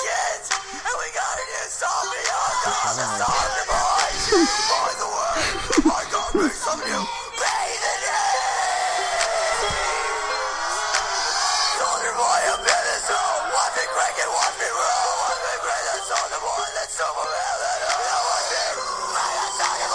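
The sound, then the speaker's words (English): Harsh, guttural screaming fills the whole stretch, loud and continuous with raspy, strained texture, sustained shrieking layered over a dense, noisy backdrop. “It becomes guttural screaming.”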